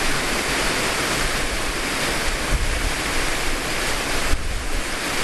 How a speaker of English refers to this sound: There's only so many ways you can shoot a waterfall like this.